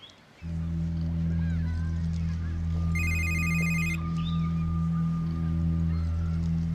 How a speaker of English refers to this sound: Dude, your phone, you gonna get that? Don't worry about it.